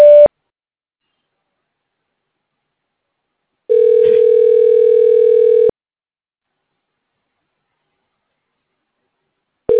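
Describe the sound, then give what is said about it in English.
A steady, buzzy phone-line tone from a Google Voice call prompt sounds in bursts: one ends at the start, another holds for about two seconds, then long silence before the next begins. No voices. “Please state your name after the tone, and Google Voice will try to connect you.”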